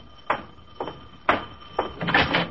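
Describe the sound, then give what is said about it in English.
A front door being opened after the doorbell rings: a few quick clunks and rattles of the latch and handle, spaced unevenly and ending in a longer scraping shuffle. No one speaks. “I open the door and then right into a story.”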